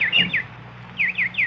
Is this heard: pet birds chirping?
yes